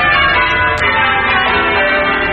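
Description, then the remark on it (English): Bells ring out steadily in a dense, sustained peal in a 1957 Australian road safety commercial, their tones overlapping and ringing continuously and loudly throughout, with no voices present. “When the bells ring in 1957, the Australian Road Safety Council urges you to make your resolution.”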